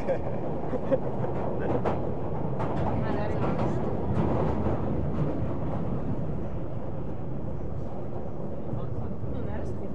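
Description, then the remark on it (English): A steady, loud rumble of an older train rolling along the rails, with faint rhythmic clatter and scraping running throughout, constant for the whole stretch. “Some of the older trains now, isn't it? Now they're getting rid of them on the subsection roads.”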